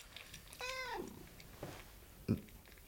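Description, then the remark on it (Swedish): A cat named Sippo, at a home in Pedersnäs, gives one drawn-out meow that slides downward in pitch, moderately loud, followed by a soft short cry and a brief low thump in otherwise quiet surroundings. “Vad heter katten? Sippo.”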